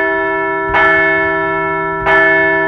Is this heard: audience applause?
no